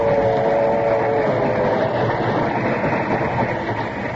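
A passenger train with a dining car rumbles steadily along the rails, a dense continuous roar with a faint metallic hum on top, loud and unbroken for the whole stretch with no voices.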